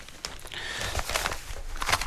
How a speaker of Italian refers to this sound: Sentite come fruscia sta carta, è proprio una roba che immagino non sia il massimo da ascoltare